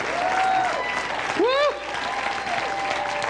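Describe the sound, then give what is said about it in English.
Dense, sustained audience applause welcoming Dr. John Avanzini at Tabernacle Family Church fills the whole stretch, a steady wash of many hands clapping, with a brief rising vocal whoop cutting through partway. “Hold your applause, please, and just remain standing with me and let me look at you.”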